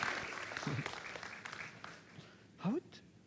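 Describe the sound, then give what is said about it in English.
A church audience claps for a guest speaker invited up by the pastor, a steady, dense patter of applause that holds for a few seconds, with voices calling out and talking over the clapping. “So yeah, give him a warm round of applause.”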